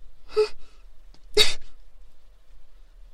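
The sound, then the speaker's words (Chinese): A solo voice acts out a sneeze building up from a nose tickled by tiny fluff in a machine: two sharp, breathy bursts about a second apart, then nothing, as if the sneeze stalls and never comes. “说每一次在我将打喷嚏的时候就停下来了，我明白了，你们是故意的吧？”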